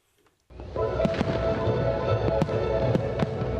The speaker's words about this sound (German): Mit Multimedia-Spektakel und einem gigantischen Feuerwerk feierte Valencia 2005 die Eröffnung des Palau de las Arts, des kühn geschwungenen, weiß gekachelten Herzstücks seiner Ciudad de las Arts y las Ciencias.